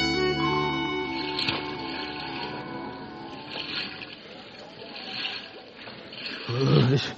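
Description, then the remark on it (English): Water sloshes and splashes as someone slides down a wharf piling into cold water, a few uneven surges that end in a louder splash, with a steady low tone humming beneath. “run to the corner of the wharf and slide down that piling. Into the water? Of course into the water.”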